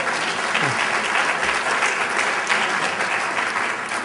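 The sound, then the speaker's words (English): An audience breaks into loud, sustained applause, a dense and steady wash of many hands clapping for about four seconds with no voices over it. “I should get applause for that, too.”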